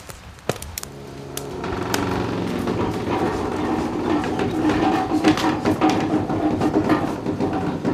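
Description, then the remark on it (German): A wood fire, made to heat a cheese-making kettle, crackles steadily, with a continuous rushing roar broken by frequent sharp pops and snaps, some louder than others, and no voices. “Bald knistert es so richtig gemütlich und nach einer guten halben Stunde kann das Kessi auf das Feuer.”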